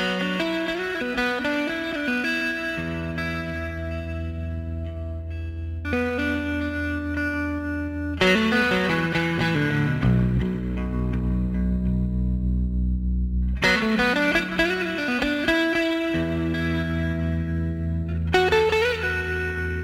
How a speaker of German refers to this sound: noch ein paar Takte vom Gitarristen